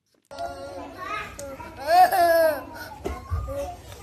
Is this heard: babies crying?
yes